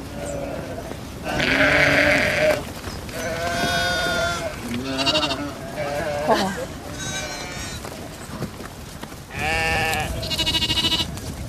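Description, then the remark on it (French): A flock of ewes and lambs bleats in overlapping bursts, some calls high and thin, others deeper and hoarser, loud with brief gaps between them. “il y a des agneaux qui pensent qu'ils sont les meneurs. Et les brebis, et donc il y a Bernadette qui court pour récupérer sa place de meneuse.”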